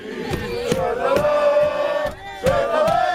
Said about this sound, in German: Solange es nur Schalala ist, doch oft werden in vollen Zügen auf dem Weg zu Fußballspielen auch sexistische Fangesänge laut.